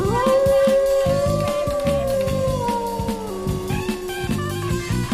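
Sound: wolf howling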